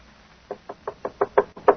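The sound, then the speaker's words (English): Someone raps on a door about seven times in quick succession, the knocks growing louder, with a brief pause before the last, firmest one. No voices accompany it. “Tony, open the door.”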